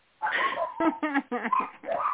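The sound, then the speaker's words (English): Several dogs bark in a rapid string of sharp, overlapping yelps and barks that fill the whole moment, loud and insistent, with no one talking over them; the dogs surround the person recording. “Trying to get away from the dogs, sorry.”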